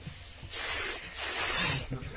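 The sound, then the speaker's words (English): A person hisses twice through their teeth in response to someone's silent fake clapping: a half-second burst followed after a brief pause by a slightly longer, louder one, both sharp, airy and bright. “Wait, your foping just got a hiss”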